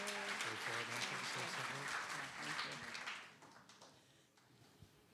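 An audience claps steadily in a dense, sustained wash of applause for about three seconds as a woman comes up to share her story, then the clapping thins out and fades to a quieter hush with a few scattered claps.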